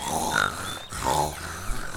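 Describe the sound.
A person imitates a large boar's grunting, making loud, rough, throaty grunts in two drawn-out bursts.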